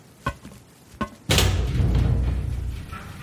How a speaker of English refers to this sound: A thunk and click comes from the wall I think the door might be on, and it opens suddenly, pouring in a crashing wave of sunlight and dust, almost blinding me.